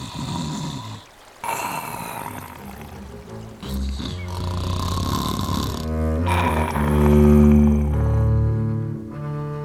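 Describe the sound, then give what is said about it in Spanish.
Deep, rumbling snores from a wolf asleep lying near a river in a forest rise and fall in long, slow cycles with brief pauses between breaths, loud, mixed with low droning musical tones and no talking. “Se tumbó cerca del río y se puso a dormir.”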